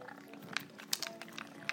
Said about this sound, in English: But the one that's making all the noise on the plastic is Wackaboo-boo. The one you can hear purring is Pinky. She's eaten some.